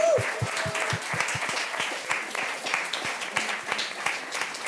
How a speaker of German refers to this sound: Ihr wart aber auch ein ganz, ganz tolles Publikum. Also ihr dürft auch noch mal für euch selber applaudieren.